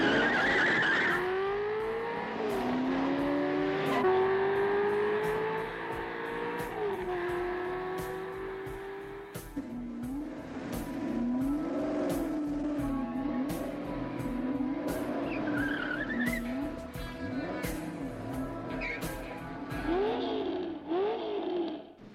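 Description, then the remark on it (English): Loud car engines roar and rev with rising pitch as vehicles race, tires squealing and skidding in bursts throughout, a continuous high-speed chase with no voices. “You want to race?”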